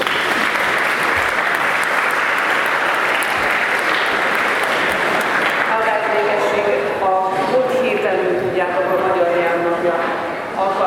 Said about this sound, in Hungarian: Nagy tapsot neki!